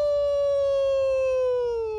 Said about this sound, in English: The silence was broken by a howling sound.